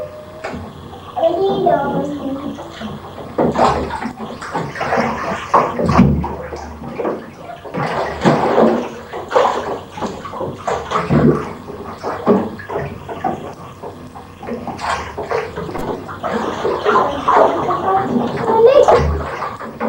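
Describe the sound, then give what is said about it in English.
Water being poured onto the ground, a steady splashing and gurgling that surges and eases in uneven bursts for the whole stretch, fairly loud throughout. “Pouring water on the ground.”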